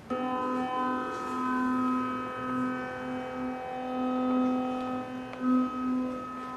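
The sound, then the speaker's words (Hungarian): A Doppler radar taken from a self-driving car, used in an apartment, picks up a fan's spinning blades: a steady electronic drone of stacked harmonic tones with a faint, regular pulsing flutter as the blades pass. No one speaks. “Ahogy láthatjuk, a DVD lejátszóra, a ventilátorra és a bekapcsolt mosógép dobjánál is reagált valamiféle mozgásra, és szeretném bemutatni, hogy a ventilátornál milyen hangot hallottam.”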